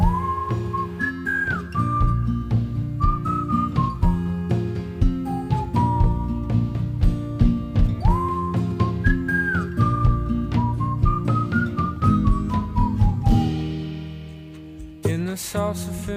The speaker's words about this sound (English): It picks up a bit, but this is also a song my dad's put me onto, and I really like it, and I hope you guys can enjoy this song. Here comes some whistling. Let's hear it.